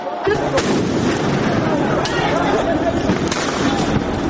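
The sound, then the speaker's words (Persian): Sharp gunshot-like pops and bangs crack out at irregular intervals as police in Rio de Janeiro fire tear gas and rubber bullets at protesters, over a dense, roaring crowd of up to 300,000 demonstrators, with a chaotic mix of shouting voices throughout. “در ریو دو ژانیرو جایی که میزبان مهمترین بازی های جام فوتبال کنفدراسیون هاست، پلیس گاز اشک‌آور و گلوله های لاستیکی به سوی تظاهرکنندگان شلیک می کند که شمارشان بالغ بر 300 هزار نفر می شد.”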